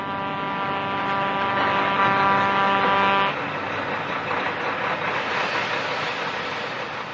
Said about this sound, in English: After what seemed like eternity, Stinker could see the rest of the truck emerging from over the horizon. In a short, it arrived.